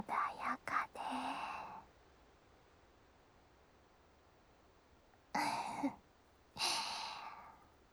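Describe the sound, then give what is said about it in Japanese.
A big, breathy yawn opens with a few short airy catches, then after a quiet pause two more long hushed exhalations follow, soft and airy with no speech. “あんちゃも大あくびだな。”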